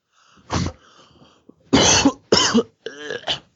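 Someone coughs four times in quick succession, harsh and fairly loud, the middle two the strongest, with a faint steady hum in the quiet stretches between them. No one speaks.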